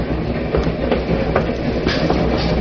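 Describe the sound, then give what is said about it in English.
Train wheels clack steadily over rail joints beneath a dense, rumbling roar, with sharp periodic clicks punctuating the continuous low hum of a moving carriage heard from inside. “The wheels of the train must have been listening to what that woman said, because they repeated it.”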